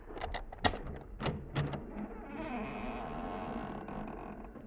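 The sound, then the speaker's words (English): The front door of a house is opened with a few sharp clunks and rattles, then its hinge lets out a long, drawn-out creaking squeak that holds steady until the end, with no voices. “Well, we've opened the front door now. Maybe you heard the hinge squeak a little.”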